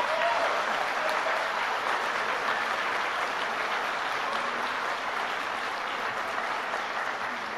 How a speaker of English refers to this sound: Please stay up because I want you, all the graduates, to look around you and give a big round of applause to all those people who have supported you in these years.